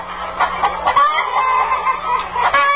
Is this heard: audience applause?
no